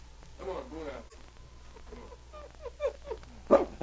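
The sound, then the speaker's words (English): An excited dog named Buna, on a leash, whines and whimpers in rising, high-pitched bursts, then lets out a series of short yelps and a sharp, loud bark near the end, as he is brought to dog tracks under a tree. “See how excited he gets? He knows he's been here before.”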